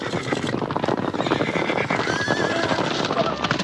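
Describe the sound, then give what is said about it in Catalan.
A dense, continuous rumble of many horses galloping close by, with repeated whinnies and neighs rising over the thundering hooves throughout. “Són potser un miler de cavalls, amb soldats al damunt armats amb llances. Passen rebents, cridant i xisclant, voltats de polseguera.”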